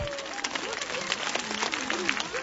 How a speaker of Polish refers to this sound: A zatem siebie również przywitajcie gorącymi oklaskami. Jest z nami krasnobród. Brawa dla nich.